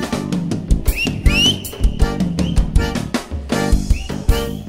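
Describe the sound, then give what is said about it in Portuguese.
A couple of shrill, rising whistles made with a finger in the mouth cut through a loud, thumping forró dance song with heavy drums, sounding bright over the busy music. “Põe o dedo na boca e vai fazendo assobio.”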